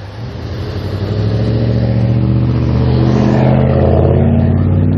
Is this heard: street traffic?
yes